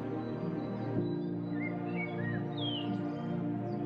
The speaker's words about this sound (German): Auch das Geschwader unserer geflügelten Freunde haucht dem Wald Leben ein. Einige von ihnen, wie Stare, Eichelhäher und Finken, sitzen schon auf gepackten Koffern und treten bald ihren Weg gen Süden an.